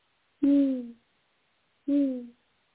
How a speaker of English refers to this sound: The only sounds were of the owl.